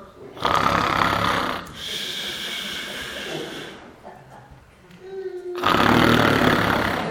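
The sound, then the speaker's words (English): A preacher in church imitates loud snoring: two long, rasping snore bursts separated by a quieter stretch of breathy rumbling, forceful, with no other talk. “I was looking forward to snoring in church today.”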